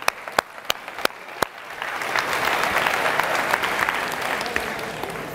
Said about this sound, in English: Okay, thank you, let's clap it up.